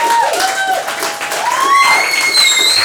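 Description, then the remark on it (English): An audience bursts into sustained applause for a comedian, steady dense clapping for about three seconds, with shrill whistles and a few cheering voices rising over it. “That's all it took for an applause break?”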